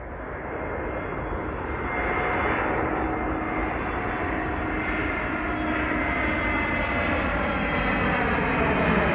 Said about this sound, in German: Eigentlich landet dieser Flieger gerade. Seinen Lärm habe ich mit dem Handy aufgenommen vor ein paar Tagen am Rande der Tappenbek. In dieser Folge soll es also um den Fluglärm in Großborstel gehen.